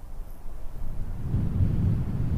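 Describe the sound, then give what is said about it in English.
Low, rumbling wind at 10,000 feet in the air rushes steadily and swells into a stronger gust partway through, a deep buffeting roar with no voices. “With the wind blowing and the gusts of wind.”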